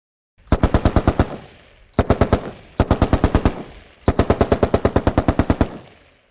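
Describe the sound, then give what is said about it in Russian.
Goblin fires a machine gun in four short bursts of rapid, sharp cracks, each burst several shots long, the last one the longest, with brief silences in between and no voices. “Гоблин дал 4 коротких очереди.”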